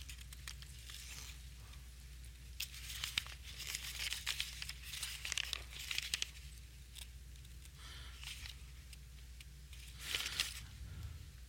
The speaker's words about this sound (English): So I have to crumple my pages so I can turn them.